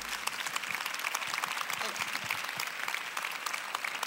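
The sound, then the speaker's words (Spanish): An audience applauds steadily, a dense wash of many hands clapping at once with sharp crackling texture and no letup, holding an even, fairly loud level throughout. “Un aplauso muy grande, por favor.”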